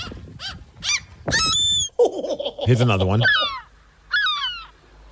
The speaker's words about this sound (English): Do you want to hear what a real seagull sounds like?